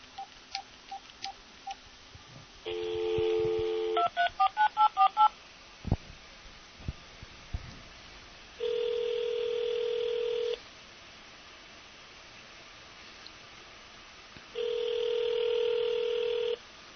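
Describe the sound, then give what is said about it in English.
Soft beeps, then a steady dial tone and a quick run of touch-tone dialing beeps on a phone, a few clicks, and two long ringing tones several seconds apart, as a phone call is placed. Clear, with no voices. “If I can get this phone to work, that is.”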